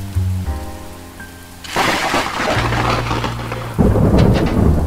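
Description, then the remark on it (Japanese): A sudden, loud crack of close thunder from a nearby lightning strike bursts in and rumbles on heavily over steady rain, swelling again near the end; a low hum fades out as the strike hits and the power goes out. “雷、近くに落ちたのかしら。”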